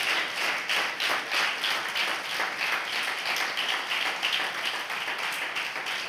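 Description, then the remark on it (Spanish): A church audience breaks into sustained applause for Jesus Christ, many hands clapping in a dense, steady wash of bright crackling claps that holds an even loudness for several seconds with no voices standing out. “Denle un fuerte aplauso a nuestro Señor y a nuestro Salvador Jesucristo.”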